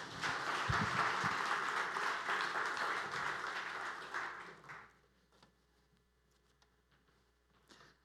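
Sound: applause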